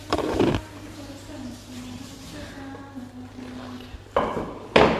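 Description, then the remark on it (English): A chair is shifted into position for a question session: a clattering scrape at the start, a stretch of quieter rumbling and faint murmur, then two more knocks as it is set down. “All right, now we can need to get the chair over here so I can ask questions.”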